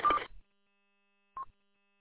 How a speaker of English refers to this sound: Yeah, I was just hearing carrier go beep beep, every, you know, like while you're talking. So I don't know if that was a repeater or something on your side or what.